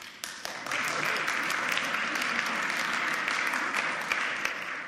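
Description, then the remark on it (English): A crowd claps steadily after a quick start, a dense, sustained wash of many hands applauding at even loudness, with scattered sharper claps standing out clearly. “Can I applaud you on sticking with me through a very complicated passage?”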